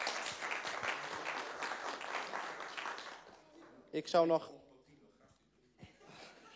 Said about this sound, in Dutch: En volgens mij hebben we dan een winnaar van de eerste ronde. Applaus.